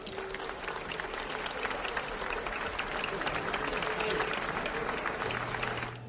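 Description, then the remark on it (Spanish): A crowd applauds steadily for several seconds in honour of the founder of the company Navasola, dense overlapping clapping that stays full and even throughout, with a faint low hum underneath near the end. “Quiero que le deis un fuerte aplauso y abrazo”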